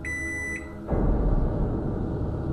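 household object, microwave oven beeping

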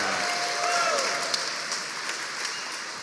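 crowd, audience applause and cheering

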